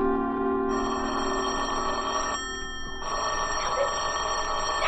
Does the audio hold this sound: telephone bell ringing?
yes